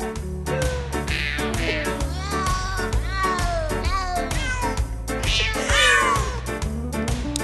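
Sampled cat meows are pitched into a tune, one after another in quick succession, over a steady, bouncy musical backing. It plays loud and continuous with no talking.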